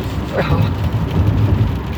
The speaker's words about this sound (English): The rain's starting to come down a little bit more. I don't want to get too much background noise in.